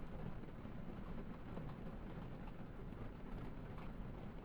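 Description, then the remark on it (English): Steady, continuous rainfall with a dense low rumble beneath it, holding an even level throughout with no pauses and no voices. “And this rain couldn't have been more perfect.”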